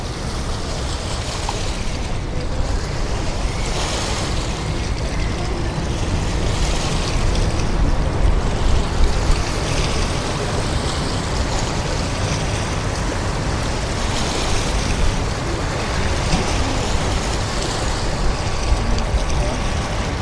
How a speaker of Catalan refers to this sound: El so és de la City, que queda esmorteït, i ens podem fer una idea de l'ambient que escoltaven els seus primers habitants i que vaig enregistrar fa cosa de 2 anys quan vaig anar doncs, a Londres i vaig aprofitar per baixar baix a la llera del riu.